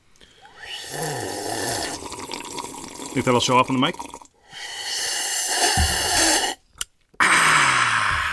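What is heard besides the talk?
people drinking water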